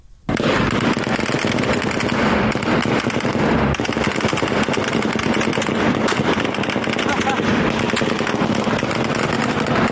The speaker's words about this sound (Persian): همزمان ویدیوهای منتشر شده از پیرانشهر نشان می‌دهد که نیروهای نظامی در پی مراسم تشییع پیکر کاروان قادر شکری از کشته شدگان این شهر اقدام به تیراندازی به سوی معترضان کردند.